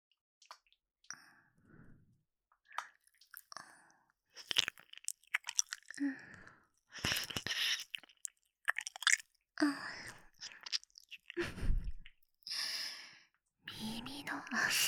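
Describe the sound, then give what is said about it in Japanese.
Close, wet mouth and licking sounds come in irregular smacking bursts right next to the ear, mixed with soft breathy sighs and faint whispered breaths, with no clear speech. “そこ舐められただけで吐息漏らしちゃってるじゃないですか。”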